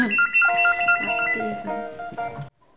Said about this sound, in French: Téléphone.